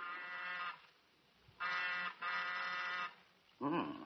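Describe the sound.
A buzzing doorbell sounds three times in steady, harsh bursts, one short, then two longer ones back to back, before a voice begins speaking at the very end.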